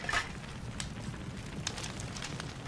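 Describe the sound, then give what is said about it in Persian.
A campfire crackles steadily, with irregular sharp pops and snaps scattered over a continuous low, rustling hiss of burning wood. No one speaks. “وقتی آتیش تثبیت شد، کم کم هیزم اضافه میکنم تا بزرگ بشه.”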